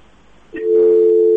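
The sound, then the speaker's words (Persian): A steady electronic telephone busy tone starts abruptly after a brief click and holds continuously, loud, with no talking, after a caller's phone line is cut off. “متاسفانه تلفن قطع شو.”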